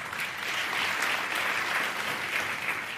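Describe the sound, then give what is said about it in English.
Steady applause from a crowd, a dense wash of clapping hands that holds at a fairly even, moderately loud level throughout, with no voices heard. “And the sheep not applauding.”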